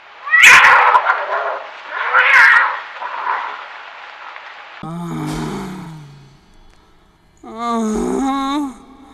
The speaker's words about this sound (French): C'est le petit bout de la queue du chat qui passait par là.